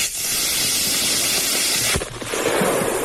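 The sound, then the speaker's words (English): A snowman, Olaf, with a bucket on its head, is blown up with fireworks in the bush in Ukraine: a loud, steady fizzing hiss runs for about two seconds, then a single sharp firework bang cuts in, followed by a rough crackling, rushing noise as it fades out. “What does it sound like when you blow up Olaf in the middle of the Ukraine?”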